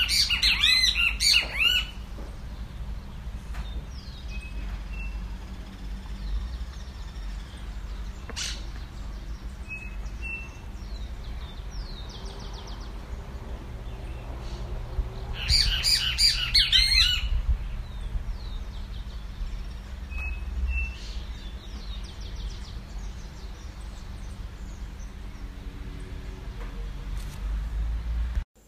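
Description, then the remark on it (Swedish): Harsh, screeching calls of green birds with a grey head and bright blue wings burst out loudly at the start and again mid-clip, with scattered fainter chirps and squawks in between over a low, steady background rumble. “Och de blir ju ganska skräniga, kan man säga. Alltså. De hör man på bra håll, vilket vi också kan höra här.”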